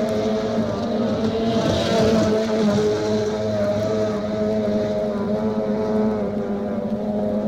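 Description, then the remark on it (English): Outboard racing boats roar across Prineville Lake in Oregon's Central Valley, competing in the National Stock Outboard Championships in mid-August, their high-pitched engines whining steadily and loudly for the whole stretch, layered together in a continuous buzzing drone. “there's a new sound to be heard out in Oregon's Central Valleys this year, the exciting charge of America's best racing boat drivers, competing for the National Stock Outboard Championships on Prineville Lake in mid-August.”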